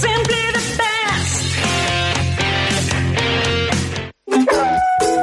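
Dogs howl in long, wavering tones and bark in a steady stream, loud, with a brief silence near the end before the howling resumes.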